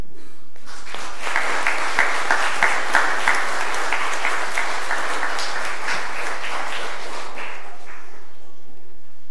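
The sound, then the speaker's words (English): A church audience breaks into steady applause during a service to welcome confirmands, building quickly, holding for several seconds with dense overlapping claps, then tapering off and fading out near the end. “Well, I think that I don't like to clap a whole lot, but congratulations, in fact, that we're welcoming these confirmands into our midst, into the altar of our Lord.”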